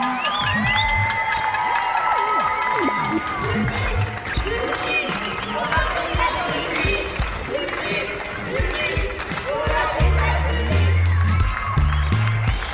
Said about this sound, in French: C'est le rendez-vous qu'on s'est donné toutes et tous depuis une semaine pour applaudir les soignantes et les soignants français. C'est de la gratitude qu'on entend aux fenêtres